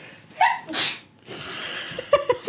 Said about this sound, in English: I have to sneeze.